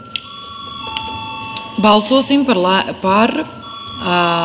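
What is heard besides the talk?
parliament bell ringing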